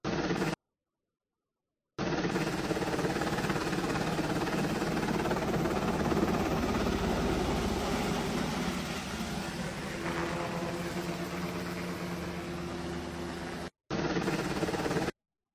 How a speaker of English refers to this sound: Do you see this helicopter came in, hovered over this relief area? Not FEMA relief area, just normal people relief area.